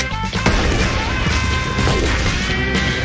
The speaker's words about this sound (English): Right now, I'm burying a firecracker. Why? Because I love underground explosions. I don't know if there's just more of an anticipation, but they just seem to be a lot more fun.